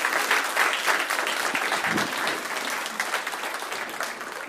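A church audience applauds again for a woman, a dense wash of many hands clapping at once, fairly loud and sustained throughout before easing off slightly toward the end.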